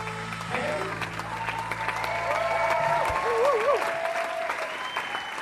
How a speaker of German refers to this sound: Das Premierenpublikum jedenfalls hat die Pilotfolge gefeiert. Minutenlanger Applaus.